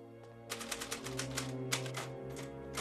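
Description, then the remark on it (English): Brisk, uneven typewriter keystrokes clatter in quick bursts as a man types at his desk, layered over a steady low, humming musical drone, with no voices. “stops typing as she comes in and sets the tray on the end of his desk.”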